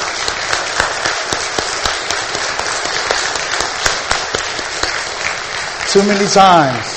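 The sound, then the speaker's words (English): A crowd breaks into sustained applause for military veterans who have risen: dense overlapping clapping that stays steady and loud for several seconds, with a brief whoop or tonal voice rising near the end. “I think we should give them a round of applause.”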